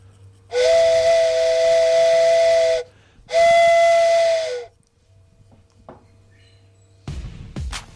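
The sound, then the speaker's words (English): Someone mimics a train whistle with their mouth: two long, loud, breathy hooting blasts, the first about two seconds and the second shorter, followed by quiet and a brief rustle. “Yeah, I can do a train whistle, too.”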